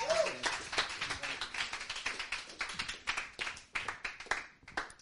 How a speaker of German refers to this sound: Und wir können ihn mal willkommen heißen mit einem warmen Applaus.